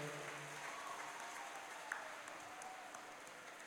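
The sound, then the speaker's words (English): An audience claps steadily for several seconds for the students and faculty who put on a show, a dense, even wash of many hands with no pauses or voices standing out. “So big round of applause for them.”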